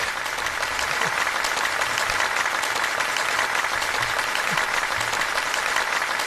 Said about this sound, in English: Thank you, side chicks. Thank you for that. I appreciate the round of applause.